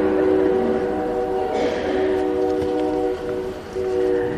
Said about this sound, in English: And it's been just about exactly 1 year since I stopped a sermon for a train.